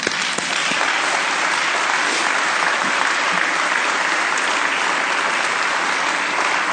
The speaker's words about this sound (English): You need to applaud yourselves.